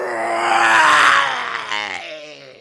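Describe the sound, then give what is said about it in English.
A human voice imitates an animal roar as the squirrel a squirrel character throws back his head and roars: one loud, sustained, gravelly bellow lasting about two and a half seconds, swelling in the middle and trailing off into a rough, wavering growl. “… threw back his head and roared.”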